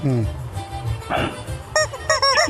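A loud chicken squawk sound effect, a quick run of sharp, nasal cries bunched toward the end, with a low, muffled background murmur underneath.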